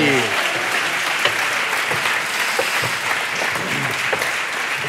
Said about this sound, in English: Oh, a round of applause. We haven't even done anything. This is fantastic. What a joy.